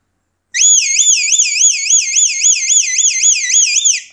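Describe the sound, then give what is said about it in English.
A loud recall whistle blast from a Farm Diggity whistle: one sustained, high-pitched tone that warbles rapidly up and down for about three and a half seconds, with no talking. “And to finish with, we do the recall whistle, which is”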